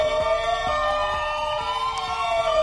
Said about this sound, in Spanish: Son las ambulancias que cruzaron Oviedo desde el Cristo a la Cadellada para trasladar a los enfermos del viejo Hospital Central al nuevo UCA. Hubo que mover 270 pacientes, 35 en estado crítico.